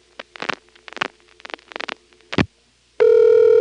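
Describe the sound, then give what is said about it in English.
A run of short, buzzy switching pulses over a low hum as an NX1 telephone exchange sets up the route to the phone line, then after a brief pause a loud, steady dial tone starts abruptly and holds to the end. “Now, this being an NX1, I wonder what the dial tone times out to.”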